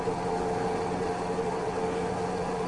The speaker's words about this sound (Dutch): Maar onze brommer is anders. Zoals ook die tweetaktmerrie met fietstassen, waarvan de man zei: als mijn vrouw erop meerijdt, rijdt hij met hetzelfde gemak precies even hard.